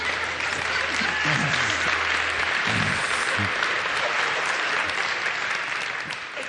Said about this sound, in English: You know when you have that moment in worship where you're not sure if it's appropriate to clap or not? It was not appropriate.